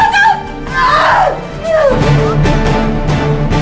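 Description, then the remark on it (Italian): Anguished screams of pain and despair in a film trailer: two loud, wavering cries that bend downward in pitch, set against a dense, noisy background with no clear talking. “Ma anche no, che ansia, e morti ammazzati, urla di dolore e disperazione.”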